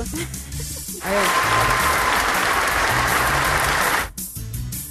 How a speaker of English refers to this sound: Okay. Yep. Keep clapping.